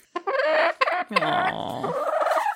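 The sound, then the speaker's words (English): A very tall hen named Raptor clucks loudly near the microphone in a quick series of nasal, squawky calls, then trails into a longer, wavering squeak, with no talking. “She's a very tall bird. So tall. Tall chicken.”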